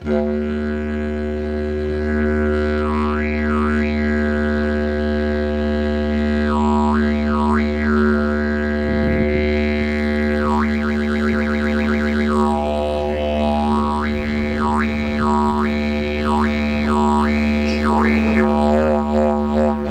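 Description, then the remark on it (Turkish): A didgeridoo made from plastic pipe drones steadily on a deep, buzzing fundamental, with rising and falling wah-like overtone sweeps and occasional rhythmic pulses layered over the continuous tone. “plastik borudan yaptığı dijiridu'yu dinliyoruz”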